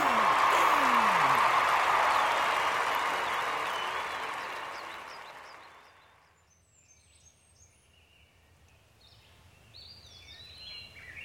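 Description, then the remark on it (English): An enthusiastic crowd cheers and applauds a new champion's win at a pie contest, a dense, loud wash of clapping that gradually fades out after about six seconds as the crowd disperses, leaving near-quiet with a few faint high bird chirps. “As the enthusiastic crowd disperses, Lazier moves to his private presidential tent to recover from the loss of his pie crown.”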